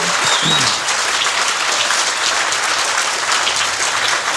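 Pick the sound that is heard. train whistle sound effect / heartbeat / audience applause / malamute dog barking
audience applause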